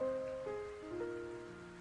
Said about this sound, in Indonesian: Nah, sore ini mendung. Bahkan sudah turun hujan.